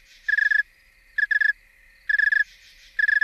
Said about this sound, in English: Snowy tree cricket. Ecanthus fultoni. Songs of a warm male, followed by songs of a very cold male. Oh, cold. Yeah. Cold. You can now hear the individual pulses in a chirp.